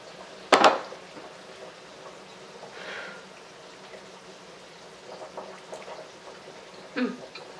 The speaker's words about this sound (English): And the noodles are boiling and doing their noodly things in the water.